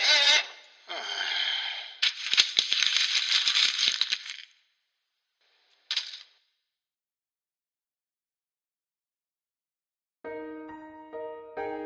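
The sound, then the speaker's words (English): Paper is crumpled and wadded up in loud, crackling bursts for several seconds, followed by a single short crinkle after a pause, then silence before a steady tonal, musical sound begins. “After the wadding up the paper thing.”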